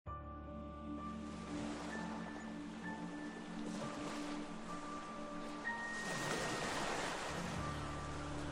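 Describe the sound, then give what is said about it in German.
Ocean waves wash steadily, with one louder swell surging up near the end, all over a constant low tonal drone. No voices are present. “Aber was ist Geld schon wert, wenn man das Meer hat? Ach, wie es mich ruft.”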